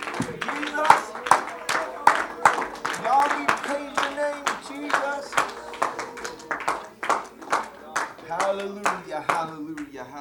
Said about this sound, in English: Oh, let's give the Lord a good hand clap of praise tonight.